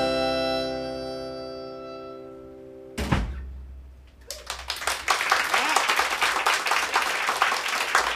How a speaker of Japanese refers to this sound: 大きな拍手を。